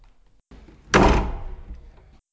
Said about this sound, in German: Sobald alle drinnen sind, schließt sich die Türe direkt hinter ihnen wieder zu.